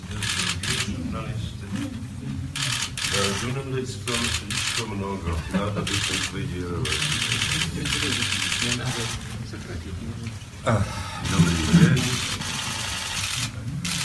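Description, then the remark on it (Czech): Rapid bursts of journalists' camera shutters click and clatter almost continuously, overlapping one another, while people talk underneath in a crowded, noisy setting, as the Czech president and another head of state approach the assembled press. “Kvalita záznamu je nízká, do toho cvakají fotoaparáty.”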